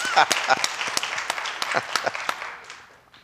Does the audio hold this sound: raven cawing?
no